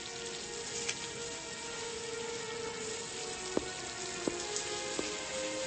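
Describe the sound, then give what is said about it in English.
Water runs steadily from a pipe under a sink in a building, an emergency leak that needs turning off at the valve under the sink: a constant broad hiss with a few sharp clinks or drips popping through near the end. No one speaks. “I just want the damn water turned off so that I can go to work.”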